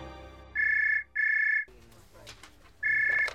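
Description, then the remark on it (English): A telephone rings loudly in steady electronic trills: two quick bursts, a pause filled with faint background voice, then another burst. “My concern was interrupted by a phone call.”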